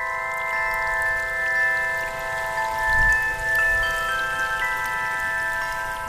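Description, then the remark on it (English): A fountain in the Garden of Unity, with four branches of water jets rising in a curved series towards the tallest jet at the center, splashes steadily into a pool, a continuous hiss of falling water with a faint, steady tonal hum running through it and a brief low rumble midway. “Then all fall back with a pleasant splashing sound into the crystal clear waters of the pool.”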